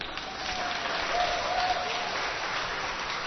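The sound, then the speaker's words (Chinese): Steady applause from an audience for the second group of a sharing session, many hands clapping in a dense, even wash that holds at a fairly loud level for a few seconds with no one speaking. “然后我还是先自我介绍一下，就是大家好，我们是第二组，给第二组一个掌声一下，谢谢。”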